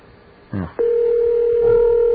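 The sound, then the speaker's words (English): After a brief murmur, a steady telephone dial tone starts while a number is called to listen to the space shuttle, holding at one even, fairly low pitch without a break, loud and continuous until the end. “You can call this number up.”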